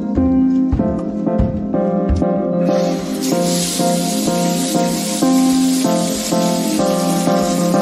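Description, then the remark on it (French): A shower bursts on a few seconds in, its steady hissing spray continuing to the end over a background of tuneful, sustained musical notes. “c'est le moment de prendre une douche, cette fois en live”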